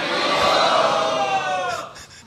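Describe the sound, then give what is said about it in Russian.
A crowd shouts "Haribol" together in one loud, sustained chorus of voices, swelling briefly and then fading out over about two seconds. “Пожалуйста, громко Харибол крикните.”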